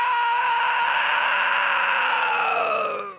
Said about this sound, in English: Given the fact that you had played a show on Friday and Saturday, is there going to be less screaming in this episode? Fuck no!